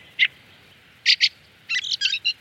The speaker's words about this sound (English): The fallow farer, the field fare, after its habits of wandering far and wide. Or in Irish, Sachin, the frost bird. Others suggest the origins in the Anglo-Saxon word fieldwear, which meant traveller of the fields.